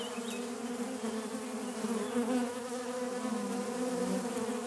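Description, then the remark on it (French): A dense, steady hum of many honeybees buzzing all around beneath a walnut tree, coming to collect honey, a continuous swarm drone with layered wingbeat tones rising and falling slightly, with no voices. “Je suis sous un noyer et autour de moi, il y a des quantités d'abeilles qui volent, qui viennent chercher le miel.”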